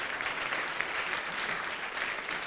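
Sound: applause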